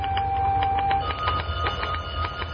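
A secretary types letters to observers in an area supervisor's office: rapid mechanical typewriter keystrokes clatter in an uneven rhythm over a steady low hum, with a faint tonal whine early on and no voices.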